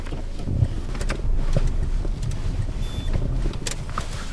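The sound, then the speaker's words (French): A car drives along a road heading back to school, its low engine and tyre rumble steady throughout, with a few faint clicks and knocks over the top and no one speaking. “On part en voiture.”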